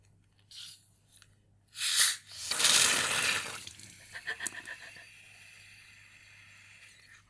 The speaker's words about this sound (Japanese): ずっとね、置いといたんですよ。お部屋の床にポンって。やるぞと思ってね、カシャカシャー開けたらね、ジョボーって、なんかもう泡になって出てきてね、思わず笑っちゃいましたよね。